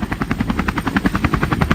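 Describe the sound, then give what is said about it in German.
A helicopter's rotor blades thump in a fast, steady rhythm, loud as it passes overhead, with no voices underneath. “Ist das ein Helikopter?”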